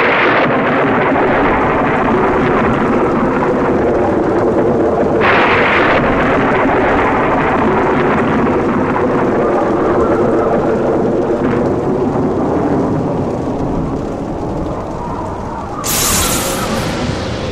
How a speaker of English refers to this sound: But now she began to notice the building storm. Louder and louder did the winds howl, and the thunder and lightning crackle.